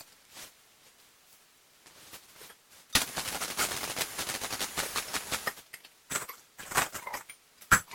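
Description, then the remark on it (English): A cash register and falling coins: a dense, bright burst of metallic clinking and rattling for a few seconds, then several scattered sharp clicks and clatters. No one speaks. “Money sounds like heavy pieces of gold falling on top of each other. The cash register purrs.”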